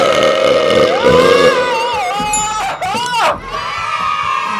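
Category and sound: human body sound, loud belch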